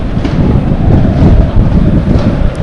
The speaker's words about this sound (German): Der Wind zieht jetzt auch so richtig hier durch. Auch schleudert er unsere Utensilien hier auf den Tisch weg. Also schon eine gute Windstärke.